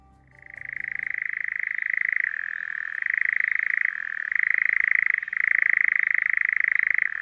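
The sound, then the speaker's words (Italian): A frog gives a loud, continuous rapid trill, a buzzing pulsed call like a jackhammer, rising in after a second and running steadily with only brief dips for several seconds; a powerful call that can be heard up to 500 metres away. “Sembra un po' un martello pneumatico. Sì, ricorda il canto del grillo talpa, solo che il grillo talpa ha un range di emissione molto limitato a qualche metro, e questo invece è un verso molto potente che si può ascoltare fino a 500 metri,”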